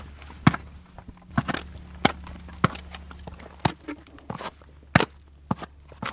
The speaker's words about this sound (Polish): Jak spojrzymy, to ona nie uderza tak płaskim kopytem głupio, tylko stara się celować kantem, żeby rozbić ten lód. One są mądre.